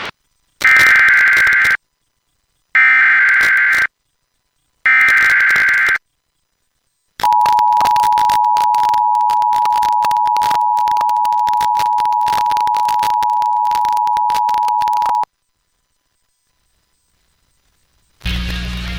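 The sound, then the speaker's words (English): Emergency alert system tones: three short, harsh, warbling data bursts, then a loud, steady, high electronic attention tone held for about eight seconds, followed by silence. No one speaks. “is an activation of the emergency alert system”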